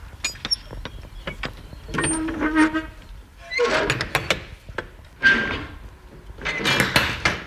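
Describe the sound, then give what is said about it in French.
Heavy metal rear doors of a semi-trailer truck being unlatched and swung open by the driver: a run of sharp clicks and clanks, then scraping, rattling bursts and a solid thunk, with no talking. “Je descends pour ouvrir mes portes arrière.”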